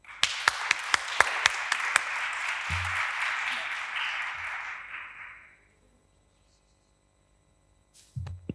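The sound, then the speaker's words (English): An audience applauds to welcome an invited guest speaker, a dense wash of clapping with a few sharp, distinct claps at the start, holding steady for several seconds before fading into silence; a short burst of sound follows at the end. “So first of all, I would like a big applause for her, please.”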